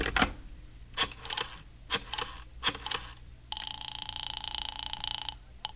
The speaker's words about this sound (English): I went into the living room and picked up the phone.